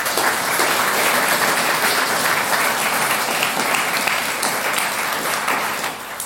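Sustained audience applause, a dense crackle of many hands clapping at a steady loud level for about six seconds, tapering slightly at the end.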